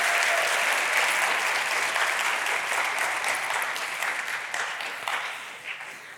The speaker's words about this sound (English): We should give a round of applause to these young men.